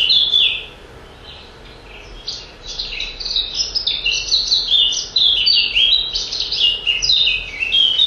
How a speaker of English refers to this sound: This is your black cap. Nice and fluty, lovely song. Very much a garden bird. Still around the orchard more than anywhere.